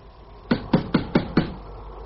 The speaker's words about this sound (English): Knock again, Linton. I have knocked. I keep on knocking. There's no one here. There must be. Try again.